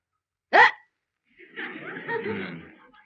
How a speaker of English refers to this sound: I've got the hiccups.